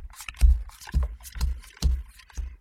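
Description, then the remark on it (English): A stack of quiz cards from a vintage box is shuffled, with a series of papery scrapes and soft thumps recurring roughly every half second, fairly quiet and with no one talking. “So you can see me shuffling them, because some of them are really easy.”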